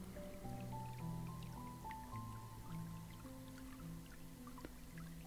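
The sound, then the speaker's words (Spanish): Gentle running water trickles and drips softly in the background, blended with sustained, calm musical tones; quiet and steady throughout, with no one speaking. “Y ahí con ese sonido de fondo que hay de agua corriendo, simplemente siente también cómo corren tus fluidos por tu cuerpo.”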